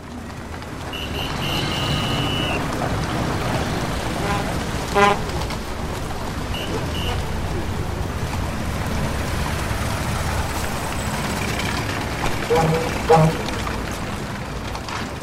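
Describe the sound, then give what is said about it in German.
A steady roar of heavy, busy street traffic with car horns honking now and then, a longer toot near the start and a few short beeps later. “Der dichter werdende Verkehr erhöht nicht nur die Mobilität.”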